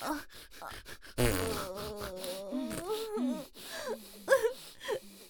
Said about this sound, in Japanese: あー、お姉ちゃんのおなら最高。 こんなにおならブーブーこいて、 スカンクだな、まるで。